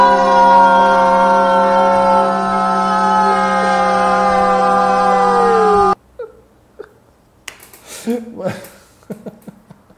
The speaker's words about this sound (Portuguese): Mano, essa sinfonia de todo mundo gritando gol ali ao mesmo tempo.